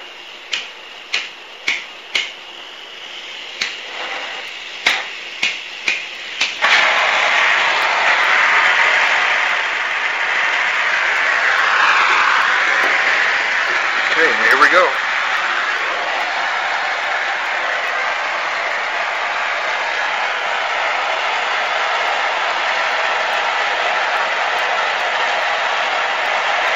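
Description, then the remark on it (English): A series of sharp, evenly spaced clicks as a gas blowtorch is lit gives way to its steady, loud hissing roar as it heats a glass pipe, burning on without a break for about twenty seconds. “So lighting up torch land here.”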